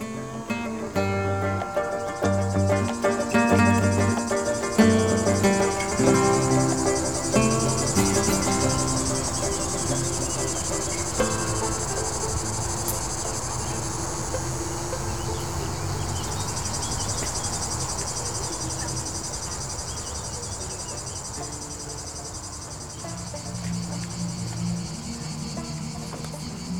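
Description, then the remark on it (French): Cicadas on walking trails of the Grands Causses chirr steadily and loudly in a dense, buzzing drone that pulses rhythmically throughout, with a softer, lower tonal layer shifting underneath and no voices present. “Nous entendons les bruits rythmés des cigales.”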